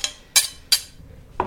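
A garlic clove is pressed into a dish being prepared and the leftover bits grated in, giving four short metallic scrapes and clicks spaced unevenly over a quiet background, with no talking.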